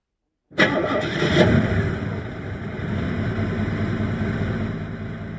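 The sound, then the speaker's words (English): After a brief silence, a motor car's engine, started by its driver, cranks and catches with a sudden loud burst, then settles into a steady, rumbling idle. No voices are heard. “The driver started moving the car back a little bit in order to turn around.”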